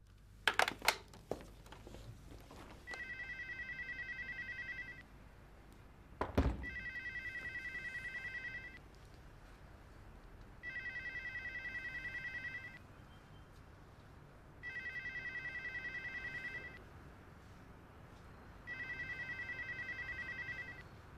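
A telephone rings five times in steady two-second bursts separated by short pauses before an answering machine picks up, clear, with a couple of sharp clicks near the start and no one speaking.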